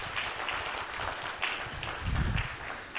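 A crowd applauds steadily for a pinball design team that includes pinball designer Dennis Nordman, a dense, even patter of many hands clapping at once, moderately loud and continuous for a few seconds with no voices over it.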